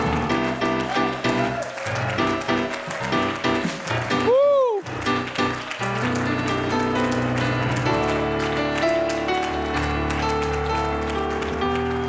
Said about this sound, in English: Now, would you give the Lord a hand of praise? Clap your hands to God. Applaud God. Applaud God. Hallelujah. Applaud God. Applaud Him for who He is. Applaud Him for His goodness to the children of men.